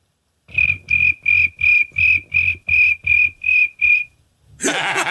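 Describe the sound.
A voice imitates a cricket with nine evenly spaced, shrill chirps, each with a raspy buzz beneath it, followed by a brief burst of noisy hiss.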